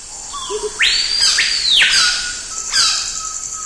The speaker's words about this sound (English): In the Amazon, heat and humidity virtually smother you. Although a cacophony of bird calls surrounds you, you see not a single bird.